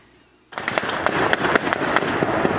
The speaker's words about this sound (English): Some witnesses posted videos on social media where rapid gunfire could be heard.